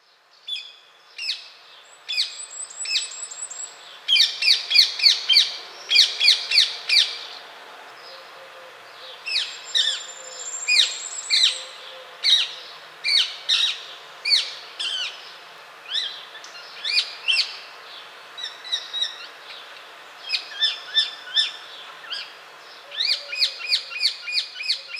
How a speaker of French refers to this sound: Mais qu'en est-il des perruches à collier en France ? On leur reproche d'une part des nuisances sonores. Certes, ces oiseaux font du bruit.